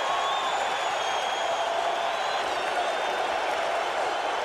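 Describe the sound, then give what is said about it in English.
A huge crowd at a baseball game roars continuously as the Sox are down to their last strike, a dense, steady wash of cheering and shouting with whistles rising above it, holding loud and unbroken from start to finish. “And this crowd is really ready to reach the heavens now.”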